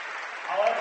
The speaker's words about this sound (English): A standing applause just seconds ago for head girls basketball coach Mike Wiss at Minster